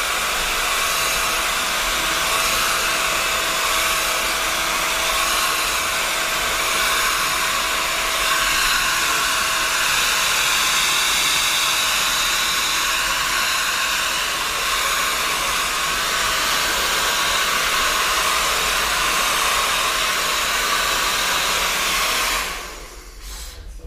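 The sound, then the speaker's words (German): A hair dryer blows steadily and loudly for over twenty seconds, a constant airy whir with a faint motor hum, then cuts off abruptly near the end. “Jetzt kommt noch mal ein bisschen eine Föhnung.”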